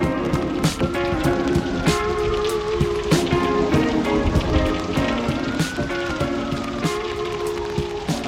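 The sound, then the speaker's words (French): Steady rain falls and patters on the ground in Berkeley, a dense wash of drops with occasional sharper splashes, over a faint continuous hum in the background. No one speaks. “Pleut sur Berkeley”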